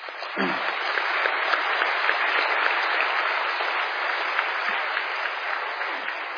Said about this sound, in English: Well, that concludes the first half of the debate. Let's give the debaters a round of applause.